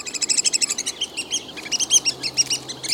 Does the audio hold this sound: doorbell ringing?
no